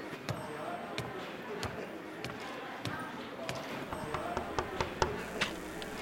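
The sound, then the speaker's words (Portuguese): A series of solid knocks on a door, spaced irregularly and moderately loud, with a few coming in quicker bursts toward the end, over a low murmur of background voices. “Por acaso, tu sabe o que é bater na... Mais um pouco e abre a porta.”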